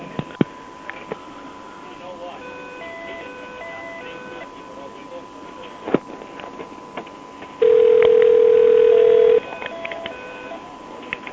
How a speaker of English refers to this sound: Look at all the phone calls coming in.